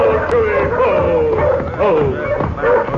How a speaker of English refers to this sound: But the village dogs raised the alarm, and in a few short seconds, every brave in the village was clustered around the giant Palomino and his famous rider.